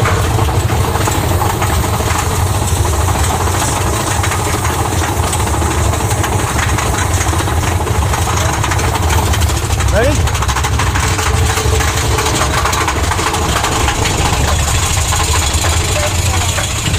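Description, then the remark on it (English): A big train engine idles with a steady, deep rumble and constant mechanical chugging throughout, while a voice briefly speaks over the drone. “That's the big train.”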